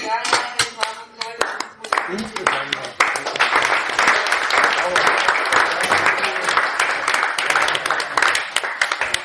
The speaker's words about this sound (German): Dein Beifall.